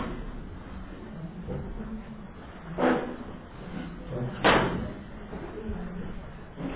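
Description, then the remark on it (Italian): Chairs being moved and set back in place: two sharp clunks a couple of seconds apart, over a low murmur of background voices and shuffling. “E evidentemente la signora ha fatto le pulizie e le sedie sono state spostate, eh? Quindi bisogna risistemare.”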